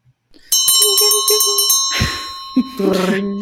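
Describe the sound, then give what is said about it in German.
A small bell is rung rapidly about a dozen times to ring in the last round, loud, its bright tone lingering as people start talking and laughing over the fading ring. “So, dann läuten wir so langsam die letzte Runde ein.”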